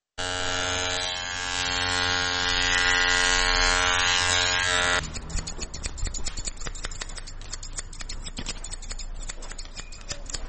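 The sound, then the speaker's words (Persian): A steady electric hair-clipper buzz runs for about five seconds, then gives way to rapid snipping of scissors cutting schoolchildren's hair in a barbershop in Kabul, with no one talking. “وای میگوید که قیچی موهای شاگردان مکاتب آنقدر عمیق صورت میگیرد که در بسیاری وقتها بدون پوشیدن کلاه چاره دیگری هم نمیداشته باشد.”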